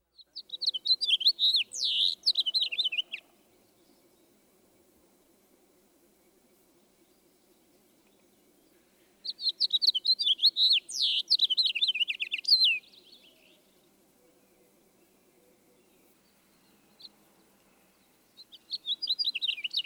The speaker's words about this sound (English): Obviously, this is a toughie, but let's listen for a handle. The house finch song is generally more burry sounding. Listen especially for the harsh, up or down slurred zree, which is often near the end of the song. This is perhaps the best handle.